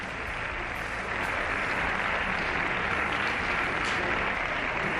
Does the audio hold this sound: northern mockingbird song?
no